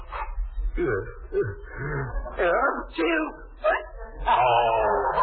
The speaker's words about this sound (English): Oh. Is pepper supposed to cure a hiccup? I haven't the slightest idea, old girl. I just wanted to know if it was possible to sneeze and hiccup at the same time.